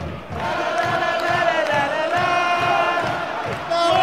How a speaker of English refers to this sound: Right, I'm gonna do some clapping and go whoa, and then I'll report back.